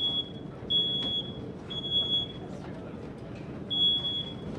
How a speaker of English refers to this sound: That's our fire alarms in the tents. It's, basically the dust in here. It gets so dusty during the day that the fire alarms actually go off from that. It's quite annoying, actually.